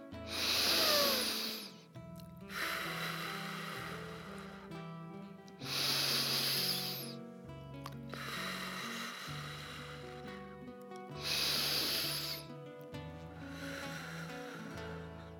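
Three slow, deep breaths, each ending in a long, airy exhale blown out through the mouth, clear over soft, steady background music.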